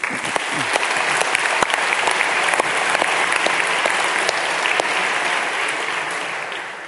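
Sustained audience applause welcoming guest Sir Jeremy Cook, a retired High Court judge, onto a stage for an evening interview at St. Helens: dense, steady clapping that holds at a fairly even loudness for several seconds, then begins to taper slightly at the end, with no voices over it.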